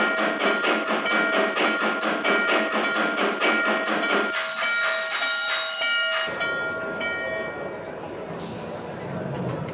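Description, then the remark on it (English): The Freedom Train, arriving at its next stop, rolls along the rails with a steady, rhythmic clatter, then a sustained tonal whine rises over it before the sound gives way to a loud, rushing hiss. “Attention all Freedom Train personnel. We are now arriving at our next sighting.”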